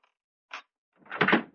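A faint click and a sharp knock, then a louder rattling, scraping clatter for about half a second as a locked dresser drawer is forced and pulled open. No one speaks.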